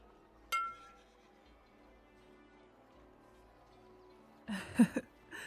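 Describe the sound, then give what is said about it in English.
Glasses clink together in a toast: one bright chink that rings on with a fading tone, followed by a few seconds of quiet and then some brief muffled shuffling sounds. “Well, cheers to being partners.”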